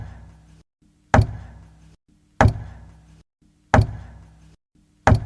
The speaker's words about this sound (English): From the other side of the wall created by the cave-in, Matt could hear a regular knocking.